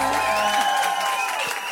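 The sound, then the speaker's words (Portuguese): A crowd claps and cheers in a steady, dense roar of noise, with sustained whoops and shouted tones riding on top throughout the short burst. “Faz barulho pra Clecinha!”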